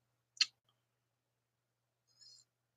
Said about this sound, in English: There we go, there's a notification. Okay, so the sound is working on this video.